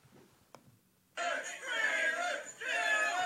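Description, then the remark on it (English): After a quiet second broken by one soft click, a crowd in front of a house erupts into loud, sustained cheering and chanting as a man on the roof prepares to jump onto a table on a dare, the roar dipping briefly before surging back. “What are they cheering?”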